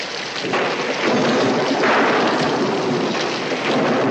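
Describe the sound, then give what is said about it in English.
Steady, heavy rain pours down at night in a dense, continuous hiss during a thunderstorm, loud, with a low rumble swelling underneath after the first half-second. No one speaks. “The rain I'm not sure about, but the rest I am.”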